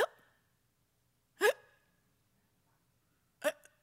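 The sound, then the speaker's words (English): A voice imitates the gasps of a small dying bird lying on its back with its feet in the air: three short, sharp, hiccup-like catches of breath, spaced a second or two apart with quiet between, fairly loud, with no talking. “And this little bird was on the back, the little feet in the air, and she wasn't breathing. She was only doing this.”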